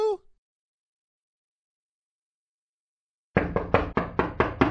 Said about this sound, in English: The front door to the Golden Oaks Library sounded with a rapid series of impacts from some durable and suspiciously hollow-sounding object.